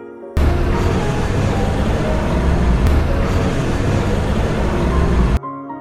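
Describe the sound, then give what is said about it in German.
A truck's heavy engine rumbles steadily and loudly for about five seconds as it drives in the dark from a village into a valley, a dense low drone with road noise, starting and stopping abruptly, with no voices. “Kein Licht, sie waren in der Dunkelheit unter den Blumen des Motors”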